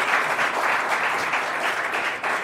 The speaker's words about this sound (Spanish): por favor, un aplauso